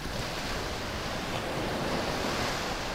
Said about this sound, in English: Far below, the waves crash onto a narrow beach.